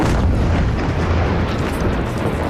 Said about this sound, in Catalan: Una persona ja ha mort, escoltàvem el so d'una de les explosions, i 11 han resultat ferides, 5 de les quals hospitalitzades per un nou bombardeig rus sobre la capital d'Ucraïna.